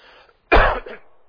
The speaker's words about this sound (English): They're back there thinking, boy, I'd love to see this preacher just coughing all night long while he's trying to preach